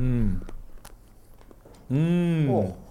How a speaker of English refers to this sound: The crunch of the chocolate. They're all peanut butter. Oh no, one was almond.